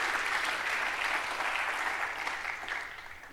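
Steady audience applause, a dense wash of many hands clapping at a fairly even level that thins and fades slightly toward the end. No voices are heard.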